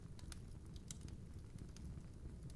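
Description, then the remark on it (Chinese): A strong fire crackles steadily in a house's fireplace, with irregular sharp pops and snaps over a low, soft roar of flames. It stays quiet throughout, with no voices. “没想到这个屋子的壁炉还挺好用的哈。”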